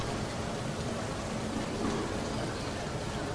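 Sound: rain falling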